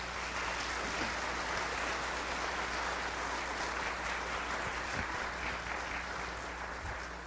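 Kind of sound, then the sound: crowd, round of applause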